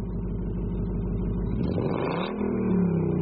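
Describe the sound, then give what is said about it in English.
A 1968 Ford Mustang engine rumbles loudly, then revs, its deep steady drone shifting and climbing in pitch partway through. No voices, just the engine throughout. “Wow, I love your car. What year is it? It is a 1968 Ford Mustang.”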